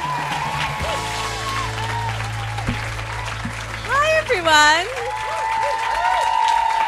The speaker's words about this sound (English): Okay, you can stop clapping now. There's so many people here! Thank you all so much for coming.